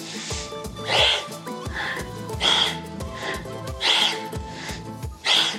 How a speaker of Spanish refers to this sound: conecta con esa respiración, una respiración de fuego que ayude a calentar el cuerpo por dentro, aumente la temperatura interna, lleve más sangre a los músculos y diga: algo está pasando aquí y voy a enfrentarme a ello. Inhala, exhala.